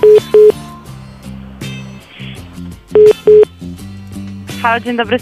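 Short, loud electronic phone beeps come in pairs, with a chiming run of tones near the end, as Radio SK dials and connects a phone call on air, set against a steady musical background.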